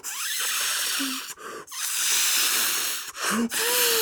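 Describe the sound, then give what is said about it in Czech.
A balloon for flying, with a big wooden basket, slowly inflating in a room until it nearly fills it: a loud, steady rush of hissing air, broken by two brief pauses, with a few short squeaky stretching tones along the way. Nobody speaks. “Jakmile to balon uslyšel, začal se pomalu nafukovat.”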